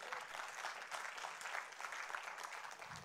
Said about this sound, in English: Somebody needs to give me some applause on that.